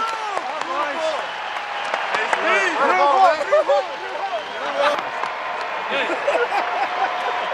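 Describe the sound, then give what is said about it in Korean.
A stadium crowd of over 41,000 at an Angels–Mariners baseball game applauds and cheers in a standing ovation for Albert Pujols's 3,000th hit, a dense, steady roar of clapping and many overlapping voices that holds loud for the whole stretch with no lulls. “4만 1,000명이 넘는 관중 대부분이 경기 내내 상대팀 메리너스를 응원하고 있었지만 이 순간만큼은 상당수가 기립박수로 축하에 동참했고요.”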